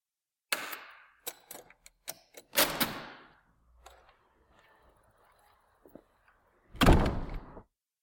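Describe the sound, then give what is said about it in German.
A door is opened with a loud latch clack and creak, followed by a few small rattles and quiet handling, then shut with a heavy, booming thud. Clear, no voices. “Take four. Türen.”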